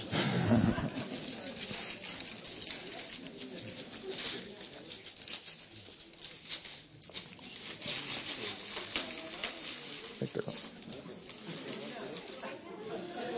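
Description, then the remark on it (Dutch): Paper wrapping being torn open to unwrap something at a church celebration, with a steady rough crackling and ripping that swells in uneven bursts for several seconds, while voices murmur underneath. “Volgens mij mag het papier gewoon kapot.”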